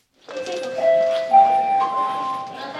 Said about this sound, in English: Okay, guys, that's the bell. It's a couple weeks into a brand new school year at Lawrence North High School in Indianapolis.